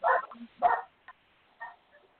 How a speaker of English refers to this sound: We can't hear you. The dog is barking. The dog is barking louder than you talking.